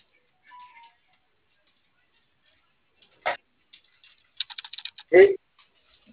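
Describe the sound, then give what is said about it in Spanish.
A short, quick run of light clicks of keys being tapped on a computer keyboard, with a couple of isolated taps before and a thump after. “¿Le prende su teclado?”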